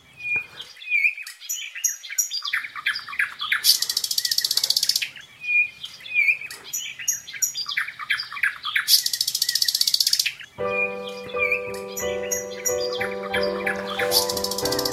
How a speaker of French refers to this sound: Vous nous parlez d'oiseaux ce matin. Oui, de chants d'oiseaux